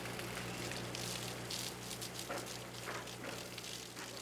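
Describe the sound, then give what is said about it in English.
Steady hissing spray of cool water from a hose onto Reba, an elephant at the Phoenix Zoo, cooling her in summer heat of about 100 degrees; a broad, continuous rushing noise with a low steady hum beneath, no voices. “Reba came over and we were hosing her down with some cool water.”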